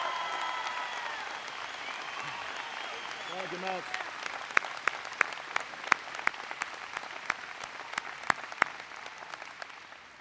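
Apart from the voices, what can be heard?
audience applause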